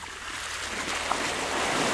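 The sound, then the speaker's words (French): Ocean waves wash in a steady, broad hiss of surf, swelling slightly toward the end, with no voices and no distinct individual crashes. “Dans un champ, je passe la nuit, le bruit des vagues.”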